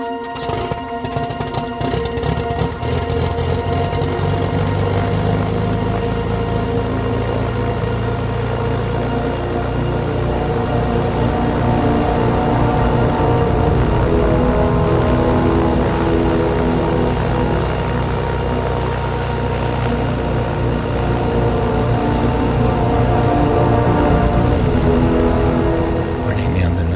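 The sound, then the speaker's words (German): Racing engines are started on the morning of a race, firing up with a few sharp bursts, then settling into a loud, continuous roar, their pitch rising and falling as the motors are revved. “Am Morgen des Rennens, die Motoren werden gestartet.”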